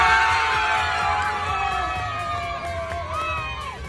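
A group of young fans chants the name of cyclist David de la Cruz outside the Astana team bus at the Volta a la Comunitat Valenciana, in loud, overlapping high-pitched shouts, sustained and excited throughout, with a crowd-like cheering quality.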